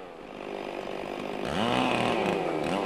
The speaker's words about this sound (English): It takes just 90 seconds for the top half of the tree to come crashing down. All that's left is a limbless trunk, 40 feet tall.